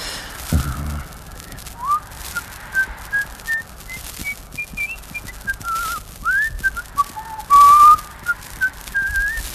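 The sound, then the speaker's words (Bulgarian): A person whistles a meandering tune for several seconds, a string of short bright notes with slides between them, clear over quiet background noise. “Кой свирка?”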